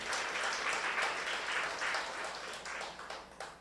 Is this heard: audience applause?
yes